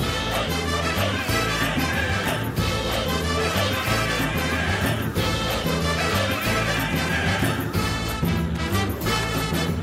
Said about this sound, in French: Le lendemain, comme vous l'avez sûrement reconnu à la musique, nous nous sommes rendus au musée du chocolat de Cadbury.